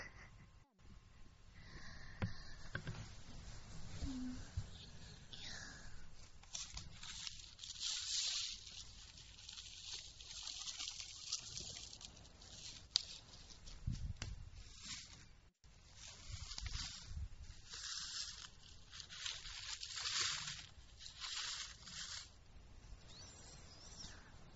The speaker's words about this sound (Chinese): 能感听到冒泡的声音啊。